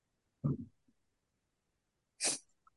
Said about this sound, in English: My gosh, hang on. I need a cough. I sure hope I didn't give you my cold. I still have it.